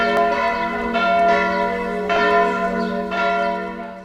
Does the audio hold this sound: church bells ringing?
yes